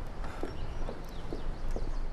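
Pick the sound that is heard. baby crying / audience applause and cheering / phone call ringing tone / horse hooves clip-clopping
horse hooves clip-clopping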